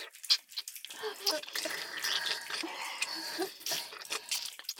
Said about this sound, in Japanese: ねえ、聞こえますでしょうか。私の手と二人の口からとてもいやらしい水音が聞こえてくるのか。